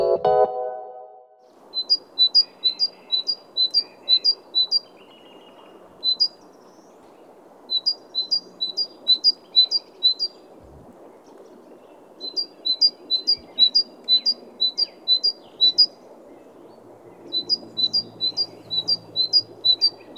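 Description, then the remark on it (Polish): A great tit calls in repeated bursts of bright, high, clipped notes, five to eight per series with short pauses, over a steady low background hum, while using a balcony bird feeder on a grey November morning. No one speaks. “energiczne bogatki nie ociągają się. Mimo szarówki, już korzystają z mojego karmnika na balkonie.”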